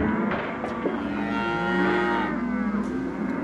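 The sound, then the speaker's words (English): Several cattle moo together in a sustained, overlapping chorus of low, drawn-out bellows, fairly loud, with no voices present. “Over the weekend, there was what can only be described as a Republican cattle call.”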